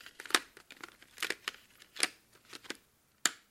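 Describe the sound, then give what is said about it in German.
Pens being pulled out of a holder, producing a string of irregular clicks and light plastic clatters, some lower in tone, with short pauses between them, no voices present. “Ja, wenn sie so rausnimmt.”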